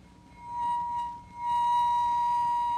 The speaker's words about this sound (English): So I'll now add just a little bit more water, and we'll bow them again. There goes the water. Listen now for a slower trembling when the glasses are played together.